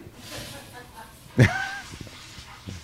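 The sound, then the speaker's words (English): An 11-year-old Bichon Poodle Maltese dog named Gracie lets out one sharp, high yip partway through, with softer whimpering sounds and faint murmuring voices in the background. “That's an 11-year-old dog.”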